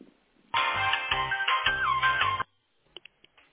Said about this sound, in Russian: Звонят.